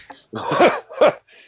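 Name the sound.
cough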